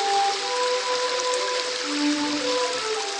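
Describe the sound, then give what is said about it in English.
Steady, dense rain patters and hisses on the blue cobblestone streets of Old San Juan, Puerto Rico, with faint sustained tones drifting underneath, like a street musician playing under a stone archway through the downpour. “Drifting out of the doorway of a restaurant or bar, or played by a street musician tucked under a stone archway on a rainy day.”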